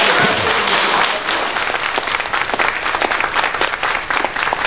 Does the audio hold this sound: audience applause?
yes